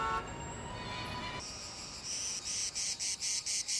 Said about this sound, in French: Ouais, c'est l'été. Les cigales chantent, à condition qu'il y ait des cigales à Los Angeles, bien sûr.